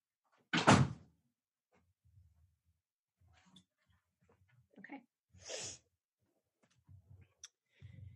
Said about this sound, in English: Hold on, I'm going to shut the door. It takes me forever to move.